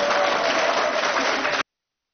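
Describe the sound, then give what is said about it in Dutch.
A burst of applause at a council meeting after an agenda item is approved: dense steady clapping from a group that holds at an even loudness for about a second and a half before cutting off abruptly into silence. “U mag nu wel even klappen hoor.”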